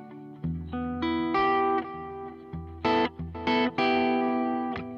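Distorted electric guitar, its tone from the FreeAmp amp plugin with reverb and delay from GarageBand, plays a short riff of sustained chords and notes, bathed in reverb and echo, loud with no voices.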